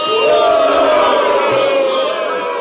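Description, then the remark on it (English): A crowd cheers loudly and continuously, a dense roar of many voices with shouts and whoops riding on top, steady in volume throughout the short burst. “The crowd would go.”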